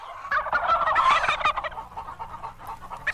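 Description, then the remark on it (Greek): A noisy flock of hens, ducks and a rooster squabbles over scattered wheat, barley and corn, with dense overlapping gobbles and clucks that swell early and then carry on in a continuous jumble, with no voices. “Κοίτα με τη λεμαριά, καταπίνουν οι πάπιες,”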